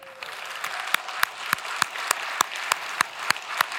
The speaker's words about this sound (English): I'm sure he's shaking his head because we're clapping.